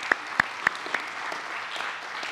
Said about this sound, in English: Let's give all the fathers a round of applause first, real quick.